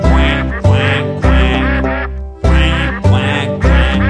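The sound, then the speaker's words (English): Loud, rhythmic duck quacks in two sets of three over steady background music, likely a singing voice imitating a duck in a playful song about visiting a farm. “I saw a duck across the way. Now what do you think I heard it say?”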